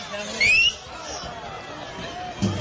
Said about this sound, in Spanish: Ese silbato es de médico de Recreativo.